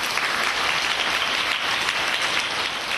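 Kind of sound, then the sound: crowd, audience applause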